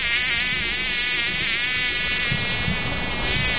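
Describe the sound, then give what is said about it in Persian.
A fly buzzes loudly, one continuous droning whine that holds steady with a slight wavering in pitch for the whole stretch, with no talking. “مگس جان، از خاطرات خود بر ما بگو.”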